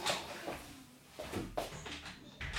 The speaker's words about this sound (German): Ich mache mal eben die Tür zu. Das stört sonst ein bisschen.